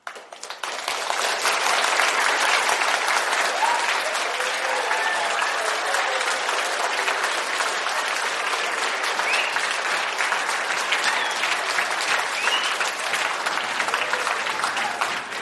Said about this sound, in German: Es geht um einen Applaus. Aber was meinst du denn jetzt ganz konkret mit Applaus? Wer applaudiert denn da wem? Also die Teilnehmer in einem Kurs applaudieren sich selbst und der Trainer applaudiert auch.